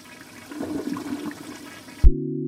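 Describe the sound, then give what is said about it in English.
A toilet flushes with a broad, gurgling rush of water that swells for about two seconds, then cuts off abruptly and gives way to a steady low humming tone. “Like, the one that comes to mind most, that I find most boggling, but I use every day, is the toilet.”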